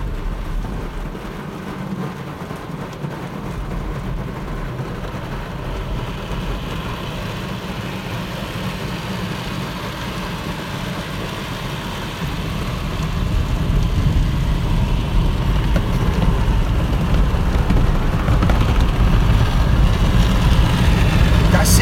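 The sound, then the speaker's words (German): An automatic car wash in Hesse, Germany, washing the speaker's car, runs with a steady, dense rush of spraying water and a low mechanical rumble, growing louder about halfway through as the wash intensifies; no talking is heard. “Sondern in einer hessischen Waschanlage. Mit meinem Auto.”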